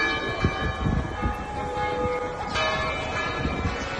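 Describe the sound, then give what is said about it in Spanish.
Church bells of the Basilica del Pilar in Zaragoza, Spain, toll a slow death knell for the death of Pope Francis, their deep overlapping tones ringing on continuously, with a fresh strike about halfway through over a low outdoor rumble. “Así sonaban las campanas de la Basílica del Pilar en Zaragoza.”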